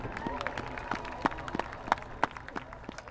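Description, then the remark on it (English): An audience applauds the performing ensembles, a steady patter of many hands clapping with sharper individual claps standing out. Some crowd murmur mixes in, and the applause stays at a moderate level throughout. “Let's give all of these outstanding ensembles one more round of applause.”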